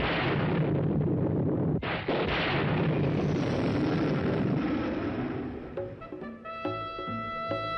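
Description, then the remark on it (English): A loud, rumbling thunderclap rolls for several seconds, with a sharp crack partway through, then fades as a brassy orchestral theme begins with bright sustained notes. This is the opening of the theme of the 1960s television series The Prisoner. “You remember this television theme, a thunderclap opening yet another episode of the 1960s cult series The Prisoner,”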